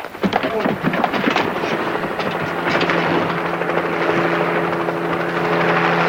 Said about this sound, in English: Choppers, more wounded.